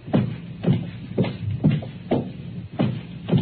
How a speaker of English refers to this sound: Footsteps. How many could you save if you had the convenience of extension phones?